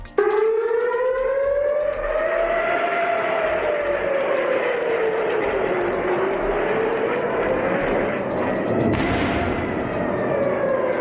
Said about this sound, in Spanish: Así sonaban anoche las sirenas antiaéreas en Tel Aviv, donde los sistemas antidefensa han neutralizado esos ataques.